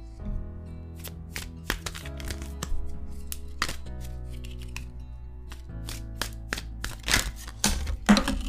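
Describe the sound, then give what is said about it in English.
Tarot cards from a Hanson Roberts tarot deck being shuffled: crisp, papery snaps and riffling taps come in irregular bursts, some louder than others, over a soft, steady musical hum with no one speaking. “Today, I'm shuffling from my Hanson Roberts tarot deck”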